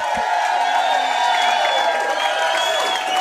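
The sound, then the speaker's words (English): A live show audience cheers and applauds for special guest Dante Hall, former National Football League kick returner, in a dense, sustained roar that stays loud and steady for the whole stretch, with many voices blending together. “Look at this crowd.”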